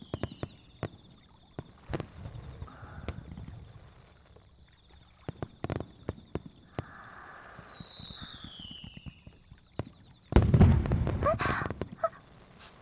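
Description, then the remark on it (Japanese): Scattered fireworks pop and thud, with occasional whistling trails rising between bursts, building to a louder, denser crackling volley near the end. “すみません、花火じゃなくてついあなたに見とれてしまいました。”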